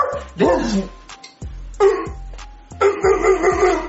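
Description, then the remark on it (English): A person barks like a dog in a streaming room, loud, in about three rough, yelping bursts with short pauses between them, no other talking. “This is where I stream. This is where I bark.”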